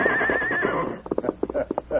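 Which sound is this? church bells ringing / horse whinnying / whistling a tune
horse whinnying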